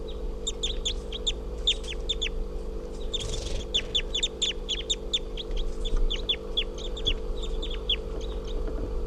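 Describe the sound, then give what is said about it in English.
A just-captured juvenile crossbill, probably a male, with a lot of yellow and a right-crossing bill, gives a long series of short, sharp, high-pitched chip calls in quick, uneven bursts, heard over a steady low mechanical hum with no talking. “So recording that bird has just been captured, and it's a juvenile. Probably a juvenile male. With a lot of yellow and a right crossing bill.”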